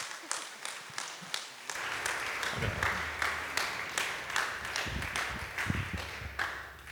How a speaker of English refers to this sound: So, and man, we're really, really grateful for you. Can we just clap for him?